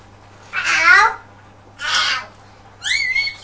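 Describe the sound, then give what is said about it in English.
A voice imitates a cat's meow, three short, bright mewing calls with pauses between, the last one higher and wavering, fairly loud with no other sounds. “Yes, that's the noise the pussycat makes.”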